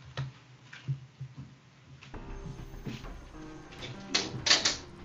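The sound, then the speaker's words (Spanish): A door being opened in Mexico: a few sharp clicks and clunks from the latch and handle, with a low steady hum underneath and a louder rattle near the end. “Y voy a abrir una puerta para que salga aquí un tarrito.”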